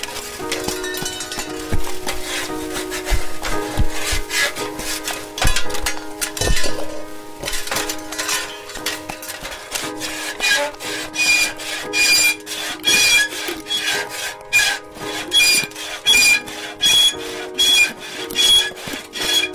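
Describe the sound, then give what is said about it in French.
Objects creak and squeak as they are rubbed and handled, a steady run of grating, woody scrapes with pitched squeals. The strokes grow more choppy and rhythmic toward the end. No voices. “Alors évidemment, à un moment, ça grince.”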